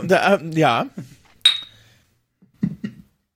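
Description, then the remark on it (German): Two wine glasses meet in a toast in a single bright clink that rings out briefly, with short spoken exclamations just before and after. “Prost übrigens, Prost.”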